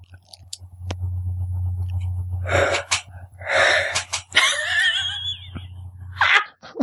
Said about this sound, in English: What was that? An aborted sneeze. It was a sneeze that was almost a full term and then miscarried.